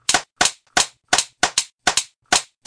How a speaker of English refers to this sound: It's totally claps. Check it in post. It's hundreds of claps.